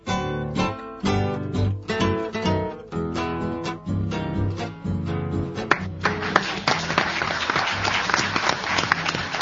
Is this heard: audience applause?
yes